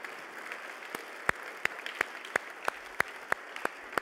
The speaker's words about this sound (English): If you'd stand at this time, let us honor you, if you will. Ladies, please stand. And men, let's give these ladies a round of applause.